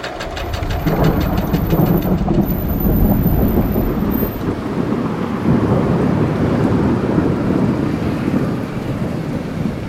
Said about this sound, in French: Ce que vous entendez, là, c'est l'énorme orage qui a éclaté le 9 mai et qui s'est terminé par une pluie interminable et sauvage. Comme pour marquer la fin du confinement et de ce printemps bizarrement insolent.